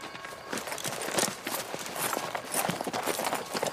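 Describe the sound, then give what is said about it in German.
Horse hooves clip-clop steadily at a riding pace, a brisk repeating rhythm of sharp knocks, with a faint wash of outdoor noise underneath and no talking. “Kommt, reitet mit mir”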